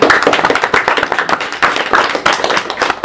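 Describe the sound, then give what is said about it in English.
A small group claps steadily for a few seconds, a dense patter of hand claps with no voices, moderately loud throughout. “Can we have a round of applause for it?”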